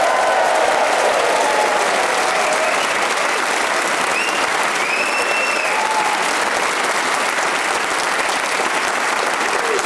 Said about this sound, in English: As the characteristic Radio 4 wolf whistling abates